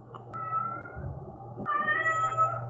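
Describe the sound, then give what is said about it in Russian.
A cat meows in two long, drawn-out yowls, the second louder and more insistent, over a low steady background hum. “Заткнись нахуй, заебала мяукать.”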